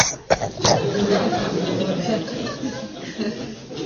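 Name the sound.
speaker imitating a cough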